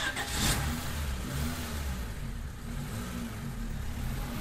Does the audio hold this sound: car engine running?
yes